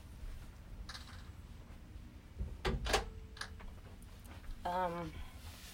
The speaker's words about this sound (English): Ooh, the door is swinging. Is there? Okay. Okay. Do you want me to close the door then?